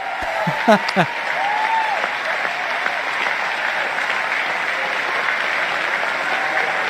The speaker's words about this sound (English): It was the largest applause I've ever heard.